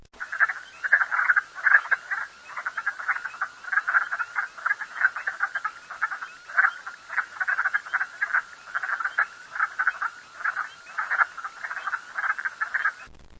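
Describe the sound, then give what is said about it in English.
A dense chorus of wood frogs in Alaska calling continuously, recorded for a wood frog monitoring project and rated calling category 3, many overlapping clucking croaks forming a steady, rhythmic din with no voices. “Thanks for participating in the Alaska Wood Frog Monitoring Project, and happy frogging!”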